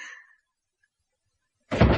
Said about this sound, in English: And the door slammed so hard it swung open again.